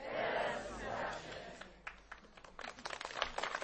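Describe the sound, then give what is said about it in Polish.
A large crowd at a Catholic religious gathering applauds for the Virgin Mary: a swell of mixed crowd voices gives way to many quick, overlapping handclaps that patter unevenly, moderately loud. “Słyszę, że dobre i pozytywne oklaski dla Najświętszej Marii Panny, która nas tutaj gromadzi dziś w świętej wodzie, w tajemnicy jej boleści jako Matki Bożej Bolesnej.”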